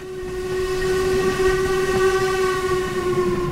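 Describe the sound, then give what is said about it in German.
A steam locomotive rumbles steadily and loudly past as it crosses a viaduct in a right-hand curve on the way to Fort William, its whistle sounding one long unbroken tone over the churning noise of the train. No one speaks. “Die Dampflok legt sich über der Brücke in eine Rechtskurve.”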